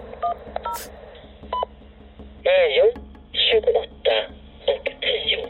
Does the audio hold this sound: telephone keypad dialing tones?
yes